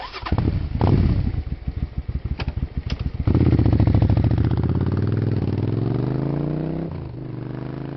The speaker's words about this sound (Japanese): 峠の山道を2台のバイクが滑っていく。